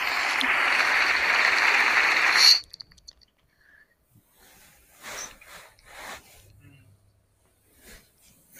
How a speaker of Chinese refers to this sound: 哇，鼓掌三角来了，好干， 久违了的鼓掌特效。 可以再来一个。